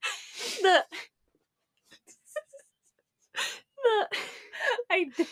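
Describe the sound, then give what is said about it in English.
A stifled yawn pushed out through the nose, heard as breathy, moaning voiced sounds that rise and fall, in a short burst and then a longer stretch after a quiet pause. “You're about to yawn. I can see it.”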